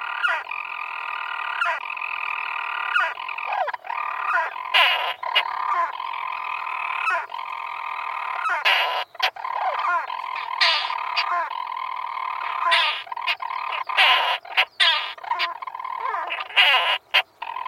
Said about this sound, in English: And, as we climb, quite unexpectedly, in the mid-afternoon sunshine, a storm petrel chirrs from a small crevice between rocks in a boulder field.